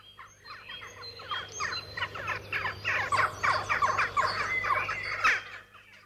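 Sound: jackdaws calling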